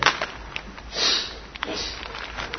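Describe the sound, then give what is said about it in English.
A series of breathy sniffs through the nose, a couple of quick short ones followed by a longer drawn-in sniff, heard on its own without speech. “Pardon me if I sniff slightly.”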